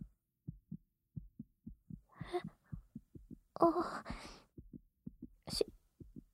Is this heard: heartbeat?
yes